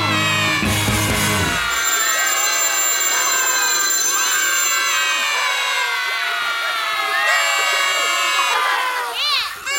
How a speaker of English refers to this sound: I believe the phone is ringing there, Adam. Is it?